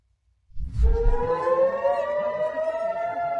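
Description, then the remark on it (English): An air-raid siren in Israel warning of incoming rockets kicks in after a brief silence with a low rumble, then holds a loud, steady wail that slowly climbs in pitch, with no voices. “The sirens go off, and everybody ducks for cover.”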